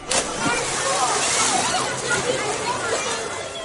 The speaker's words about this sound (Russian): Он плескался и шумел, пока большой черный змей Калия не вышел посмотреть на него.